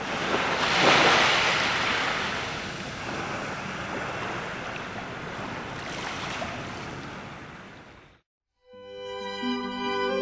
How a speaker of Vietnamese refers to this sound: Bỗng từ đâu có một ngọn sóng khổng lồ tràn lên, nuốt chửng thuyền rồng.